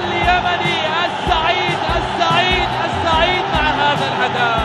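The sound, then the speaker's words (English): A huge crowd in Saudi Arabia roars and cheers wildly as a youth soccer team from Yemen wins, with layered shouting voices and rising whoops blending into a loud, continuous wall of sound that pulses throughout. “The crowd went wild.”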